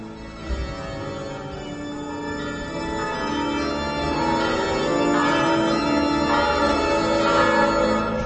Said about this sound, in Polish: Oczywiście stale biją wszystkie dzwony sanktuarium i tutaj kościół w Stara Bolesław. Te dzwony zaznaczają tę wielką, wyrażają wielką radość, że na tę ziemię przyszedł następca świętego Piotra